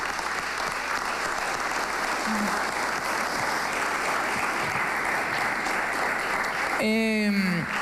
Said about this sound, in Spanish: Es bastante satisfactorio el esfuerzo que han hecho y yo como ejemplo de eso, de verdad que pido un aplauso para todos los clasificados a París.